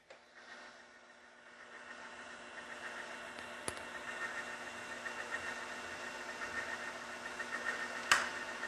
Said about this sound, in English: And then I was just procrastinating at one point, and I reached over to my electric organ and I turned it on, and I heard the whirring of the engine. I thought, maybe it sounds something like that.